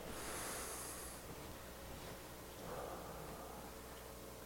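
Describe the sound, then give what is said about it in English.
A person takes a deep breath: an airy breath is drawn in with a hissing rush, then let out more softly a couple of seconds later, over a faint background hiss with no talking. “Let's take 1 second and take a deep breath.”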